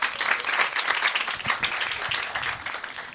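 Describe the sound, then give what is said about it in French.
An audience in a hall applauds steadily to show who has seen the film Fight Club, a dense wash of many hands clapping at an even loudness throughout, with no voices standing out. “Tout le monde a vu Fight Club par applaudissement dans la salle?”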